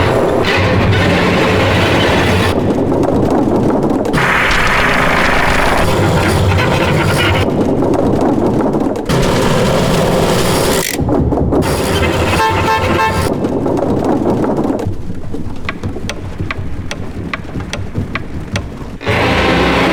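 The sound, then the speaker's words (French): Musicians of Berlin's Concerthaus Orchester imitate a Trabant (Trabi), the German car, using bows against strings, percussion and sheets of paper: honking horn-like toots, sputtering engine rumbles and abrupt blasts, loud and dense throughout, easing slightly toward the end. “plus germanophiles d'entre vous auront peut-être reconnu le Trabi, cette voiture allemande mythique que les musiciens du Concerthaus Orchester imitent avec leurs archets contre les cordes, des percussions, des feuilles de papier et des effets”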